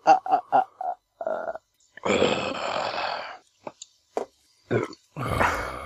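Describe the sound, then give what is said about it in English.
Dogs growl and grunt: a quick run of short throaty grunts, a longer rough growl, then scattered snorts and another harsh growl, with no talking. “Dogs.”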